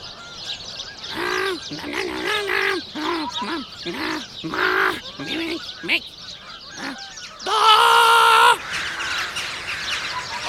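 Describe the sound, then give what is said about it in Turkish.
A noisy flock of birds gathered by a parrot calls out in short, overlapping bursts of honks and squawks, building to one long, loud blaring call near the end before the chatter settles again. “O sırada papağan da tüm kuş dostlarını toplamış ve büyük turne için hazırlık yapıyordur.”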